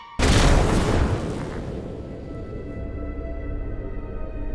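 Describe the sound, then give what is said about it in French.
A sudden, powerful explosion of a box holding 200 grams of acetone peroxide bursts out after a brief quiet moment, its broad blast decaying into a long, low rumbling roar that lingers for several seconds. “En un instant, elle meurt déchiquetée par la violente explosion.”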